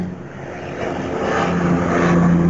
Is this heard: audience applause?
no